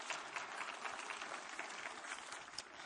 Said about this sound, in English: Come on, somebody say amen. Give one more good clap offering.